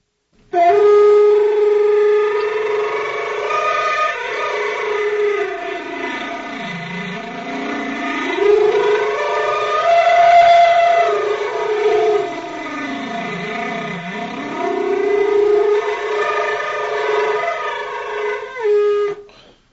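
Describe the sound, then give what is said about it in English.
A flute played with flutter-tonguing gives a buzzing, rolling tone that swoops repeatedly down and back up in pitch, like a wailing siren. It is loud and unaccompanied for nearly twenty seconds. “Flutter.”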